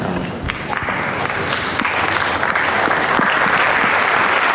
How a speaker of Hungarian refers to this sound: Bár a hatodik pálterem nincsen zsúfolásig megtelve, mégis hangos tapsal köszönik meg a mai napon is a Szent Atyának az áldását és a tanítását.